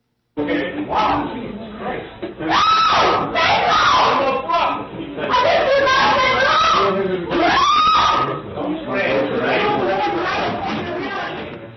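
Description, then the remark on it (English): A woman screams "Don't touch me" in loud, strained bursts as police restrain her and force her onto the floor, her cries rising and falling over overlapping voices and scuffling commotion, with a muffled, tinny recording quality. “And these are the cops restraining her and driving her bodily onto the floor.”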